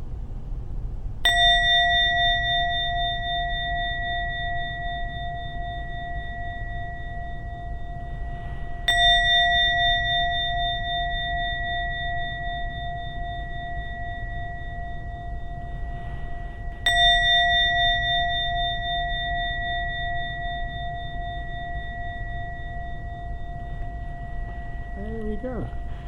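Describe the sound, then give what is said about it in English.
A meditation gong is struck three times at slow, even intervals, each strike ringing out with a long, steady shimmering tone that lingers until the next. No one speaks. “I'm now going to ring the gong 3 times. Please listen to every sound of the gong.”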